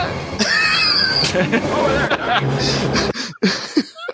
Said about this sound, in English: Jesus! That's the most you hear Rambo scream in pain, honestly. I think throughout all the movies.